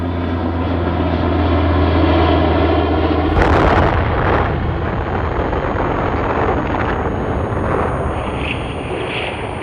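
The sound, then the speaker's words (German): A steady, droning propeller-plane engine of an American aircraft hums loudly for a few seconds, then a sudden powerful blast erupts as the atomic bomb dropped on Hiroshima on 6 August 1945, with over 20,000 tons of TNT force, explodes, giving way to a long, rolling roar of debris and rumble. “Am 6. August 1945 warf ein amerikanisches Flugzeug eine Bombe auf Hiroshima ab und machte die Stadt damit für den Feind unnutzbar.”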